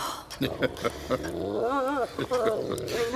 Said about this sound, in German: Verdammter Köter! Lass ihn in Ruhe.